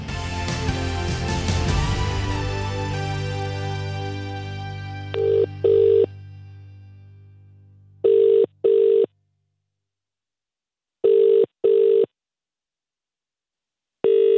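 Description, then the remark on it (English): A telephone rings in the classic double-ring pattern as a call is placed and waits to be answered, pairs of short trilling bursts repeating about every three seconds, after a resonant chord fades out at the start. No one speaks. “She's going to answer the phone, and then you just pitch away.”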